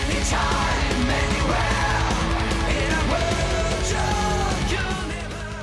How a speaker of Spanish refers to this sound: Un comienzo desde las gaitas hasta los gritos de jolgorio del final. Un derroche de energía y buen rollo.